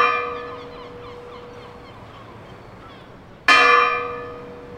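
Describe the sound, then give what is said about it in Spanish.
Church bells in a village church tower ring with rich, sustained harmonic tones that slowly decay, then a second loud strike lands near the end and rings out. No voices are present. “Se buscaba la comodidad de los niños y vecinos, y que el sonido de las campanas se escuchase por todo el pueblo.”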